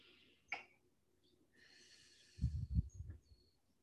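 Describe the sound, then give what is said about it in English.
A soft nasal inhale is followed by a slow, breathy exhale pushed out through pursed lips with a low puffing texture, heard alone without any talking. “Like breathing in to this form of doing it, breathing in through the nose and out through pursed lips.”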